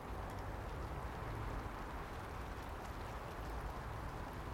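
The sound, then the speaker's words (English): A steady, soft outdoor hiss of light rain falling continuously, fairly faint and even throughout, with no voices and no distinct drops standing out. “I feel rain.”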